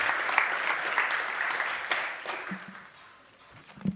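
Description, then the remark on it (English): An audience claps steadily to welcome a speaker coming up to tell her story, a dense wash of many hands that holds strong and then thins out toward the end, with a few scattered last claps. “Thanks for the clapping.”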